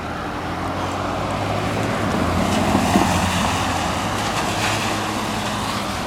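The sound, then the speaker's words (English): Road traffic crossing, heard during a run, rumbles past in a steady, continuous wash of engine and tire noise, swelling slightly midway, with a low hum underneath and no voices. “Now we have traffic crossing here.”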